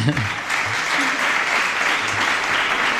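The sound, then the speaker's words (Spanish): A crowd claps steadily and loudly throughout, a dense, continuous wash of applause with a few faint voices murmuring underneath, applauding a musician after a song sung in Judeo-Spanish in a 10/8 rhythm. “Así que tiene mérito, se merece un aplauso.”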